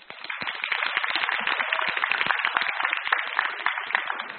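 Sustained applause from an audience welcoming a speaker: a dense, steady wash of many hands clapping at once, holding an even loudness for several seconds with no voices over it.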